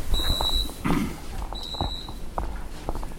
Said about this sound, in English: Did you hear that buzzing sound? That buzzing sound is a set of personnel counters, and so what that is not only an audible for us to know that someone piggybacked on my iris scan, but it also sends an alert to our control center